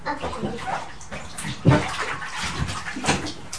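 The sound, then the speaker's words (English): Water sloshes and splashes as a child bathes in a bathtub, a continuous busy wash of sound with one sharper slap midway, moderately loud, with no talking. “Okay, why don't you lie back in the water and we can rhyme while you're wetting your hair?”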